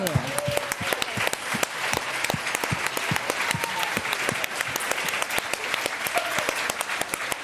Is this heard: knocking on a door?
no